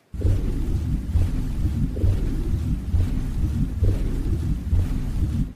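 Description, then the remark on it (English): A sound effect of a submarine interior, made by slowing and pitching down a recording, removing high frequencies, adding splash from an overhead microphone and looping it: a deep, continuous rumble with a steady low throb, swelling in regular pulses about every second as the same short stretch loops, with faint hiss above. “So, you know, creativity and technology put together in order to create the illusion that we're inside the submarine.”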